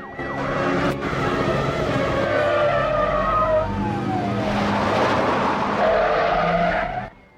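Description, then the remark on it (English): Several police cars, pursuing a white Jeep Cherokee, screech and skid to a stop in a roadside lay-by and surround it, tires squealing loudly over revving engines while sirens wail in the background. A dense, continuous burst of noise with no one speaking. “the cop cars pursue the Jeep Cherokee, which drives off the road into a lay-by. The cop cars pull over and surround it.”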